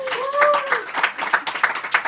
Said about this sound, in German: Und danke an das Publikum. Und vielleicht könnten wir den Applaus noch einmal hören für das Mikrofon.